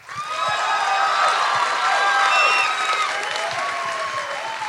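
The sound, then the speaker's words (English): A crowd applauds to vote on whether a man had sex with a woman, bursting into sustained applause mixed with loud cheering and high whoops, a steady dense roar of clapping lasting several seconds with no one speaking. “who here thinks, applaud, and don't applaud for both, who here thinks the man had sex with this woman?”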